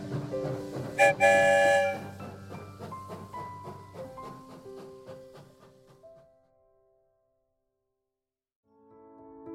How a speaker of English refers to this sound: All aboard the story train. Find your spot and settle in. The train is leaving very soon.